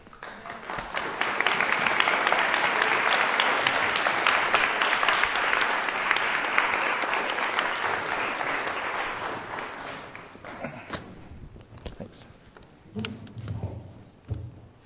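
Sustained crowd applause for a man who has just finished speaking, dense and steady for about ten seconds, then tapering off into scattered claps and a few low thumps.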